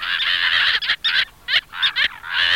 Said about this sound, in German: Dünnschnabelmöwe hat mir sehr gut gefallen.